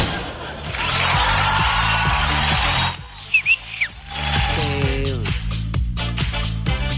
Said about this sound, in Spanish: El famoso silbido. Oye, qué bonito.